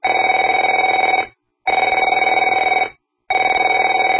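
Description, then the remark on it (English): A telephone bell rings in three loud bursts, each a rapid metallic trill lasting just over a second, separated by short silent pauses. No one speaks. “Afraid to answer it?”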